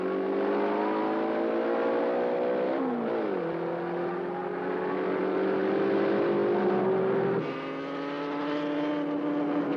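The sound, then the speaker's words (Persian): A car engine roars as it accelerates hard while overtaking other cars, pitch climbing steadily with two sharp gear shifts along the way; loud and continuous, with no voices. “از همه ماشین ها جلو زدیم.”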